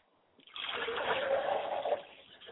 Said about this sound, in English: I'd like to pour libations to my mother's spirit, Yamenja. She is the essence of the water and the lakes and the streams and rivers.